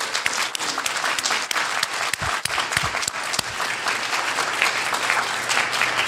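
An audience applauds steadily for their junior co-ed team that won a championship, the dense clapping holding at an even, fairly loud level for several seconds with no voices standing out.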